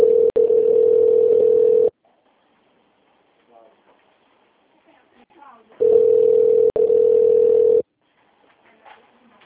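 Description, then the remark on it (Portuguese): A telephone ringback tone, heard while a call to the company Anex connects to an extension, sounds in two long, steady buzzing bursts of about two seconds each, separated by a pause with faint background noise between them. “Conectando.”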